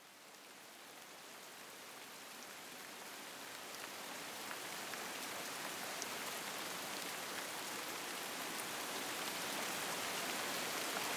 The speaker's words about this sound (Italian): Non fa nemmeno troppo freddo, visto il periodo. Piove, questo sì. Eppure parecchio, non quattro gocce, ma per essere fine dicembre si sta piuttosto bene. E le gocce di pioggia creano umidità.